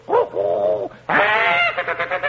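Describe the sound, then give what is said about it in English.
Loud, harsh honking squawks from a bird: two drawn-out nasal calls, a brief pause, then a longer blaring call breaking into a quick run of choppy squawks. “And hooted and squawked.”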